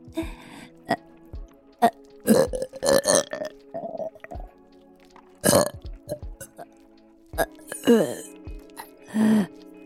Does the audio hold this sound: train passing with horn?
no